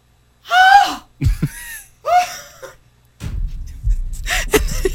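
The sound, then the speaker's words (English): A replayed recording of a scream: two short, high-pitched vocal shrieks in quick succession, loud, followed by a few seconds of rough, breathy rustling and gasping noise. “Can we hear that scream once more, please? That sound?”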